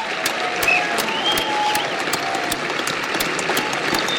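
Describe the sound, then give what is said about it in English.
Steady, dense applause at the opening of WWDC, with many overlapping claps forming an even, unbroken wash that holds at the same level throughout, like a looped sound effect rather than a live crowd. “That's like a long applause. It sounds like a loop. That sounds like sound effect.”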